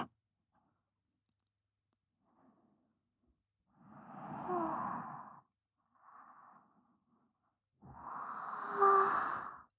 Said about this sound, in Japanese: すみません。ご主人様にあくびを聞かせてしまうなんて。でも、あくびって眠気を誘いますし